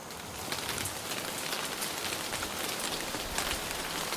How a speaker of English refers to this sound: Downpours that transform the landscape, bringing lush greenery and, vitally, water for the crops and wild animals for the more arid months ahead.